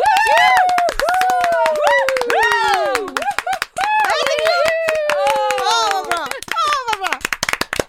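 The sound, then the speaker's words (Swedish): Loud, dense applause from a group, with rapid overlapping claps running throughout and excited cheering voices and whoops rising and falling over the clapping. “Okej, och så tar vi en applåd också till dem.”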